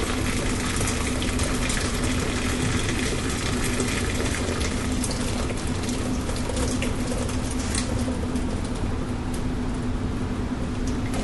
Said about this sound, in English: Now, I think the easiest way to get this omelet out of this boiling water, and you can do it whichever way you like. Some people just grab the tongs and grab the bag. I like to take it and just pour the water off really slowly.